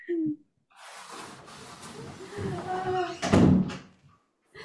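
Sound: door being closed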